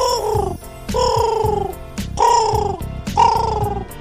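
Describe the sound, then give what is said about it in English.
Pino, a carrier pigeon on a window ledge, coos four times in a steady rhythm, each call a warbling, slightly falling note with a soft throaty rumble underneath, fairly loud and with no voices. “It was Pino the pigeon. Pino is Robbie's friend. He is a carrier pigeon, and he delivers letters to Robbie from children all over the world.”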